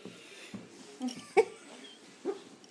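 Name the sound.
dog growling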